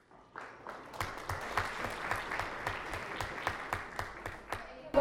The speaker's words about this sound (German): Also Sie haben gesehen, ich habe geklatscht bei Ihrem Beitrag.